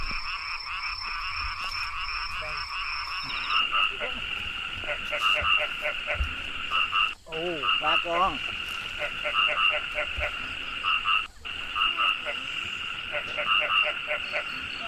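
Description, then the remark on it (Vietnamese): A dense nighttime chorus of frogs and toads croaking steadily from bushes, with repeated pulsing calls overlapping in a continuous, fairly loud wall of sound and a brief muffled voice partway through, as people hunt them with lamps at night. “Có đi soi nhái, soi cóc ban đêm mới thấy được cái tài quan sát của những người thạo nghề.”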